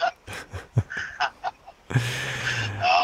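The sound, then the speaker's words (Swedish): A truck horn, sounded by a caller to a radio show, honks: a string of short, uneven blasts followed by one long, loud, steady blare with a low, brassy tone. No one speaks. “Musik i mina öron när du kör den där lastbilstutan.”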